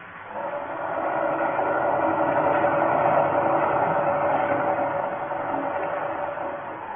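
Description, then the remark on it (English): A submarine's engine, ordered to full speed astern, turns a fouled propeller that is held back: a steady mechanical churning and grinding drones for several seconds, a dense rumbling clatter like machinery straining against resistance, with no voices. “The engine room reports propeller is still fouled, sir. It behaves as it did before. It turns, but as if something is holding it back.”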